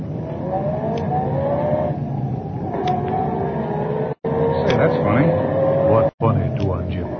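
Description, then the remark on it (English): A car engine drones steadily as it passes along a lonely country road at night, its pitch gently shifting, with two brief moments where the sound abruptly cuts out. “Car that just passed us.”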